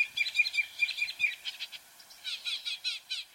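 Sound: northern mockingbird singing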